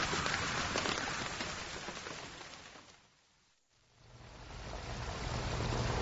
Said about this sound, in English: Just then, a blinding burst of sheet lightning crashed overhead, and the dark clouds broke, pelting the pre-dark ruins with a cold, hard rain. The storm had finally arrived.